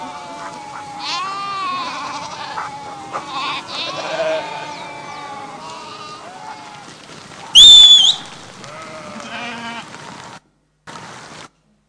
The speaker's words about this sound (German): Was für ein Lärm. Habt ihr das im Ohr? Mäh, mäh, mäh. Also wer denkt, Schafe sind leise, der hat sich geirrt. Das ist echt laut. Ein ständiges Gemecker. Und es ist wirklich eine Kunst des Hütens, 1000 Schafe im Griff zu behalten.